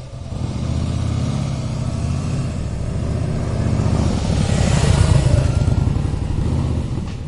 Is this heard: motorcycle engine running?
yes